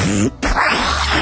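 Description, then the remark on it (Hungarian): A short voiced sound breaks off briefly, then a loud, rough, raspy throat clearing follows, lasting about a second. “Kaparja a torkom valami.”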